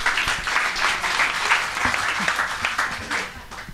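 A crowd applauds steadily for a man praised for a good deed, a dense wash of many hands clapping at an even, fairly loud level throughout, with a few faint voices mixed into the noise.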